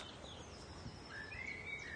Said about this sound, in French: À gauche, c'est la fauvette, hein ? Ouais, toujours.